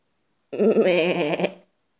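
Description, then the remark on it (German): A single drawn-out goat bleat on a farm, fairly loud, lasting about a second with a shaky, wavering tone before cutting off into silence. “Mäh, mäh, sagten die Ziegen.”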